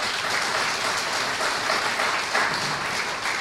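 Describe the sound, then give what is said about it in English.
A crowd claps steadily for a few seconds, a dense, even wash of hand claps with no voices standing out above it, applause given for the Fellowship of Alcoholics Anonymous. “And that applause is for him, his higher power, and the Fellowship of Alcoholics Anonymous.”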